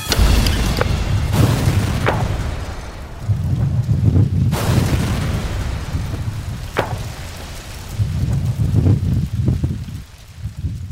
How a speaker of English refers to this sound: This is all pieces from this last blast.